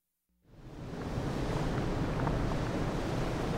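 A broad, steady roar of surf rises in after a brief silence and holds constant, waves washing continuously onto a tropical beach with soft sand and palm trees, with a faint windy hiss and no voices.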